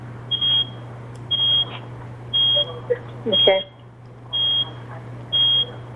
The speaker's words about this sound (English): So I'm hearing like really loud beeping. I don't know if anyone else is. Sorry, that's me. I'll mute.